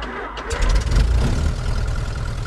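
The engine of a single-engine blue and white 1946 Luscombe light airplane catches after a brief moment and settles into a steady, loud, low rumbling idle as the plane taxis, tail dragging, to the runway of a municipal airport in central Michigan, with no voices.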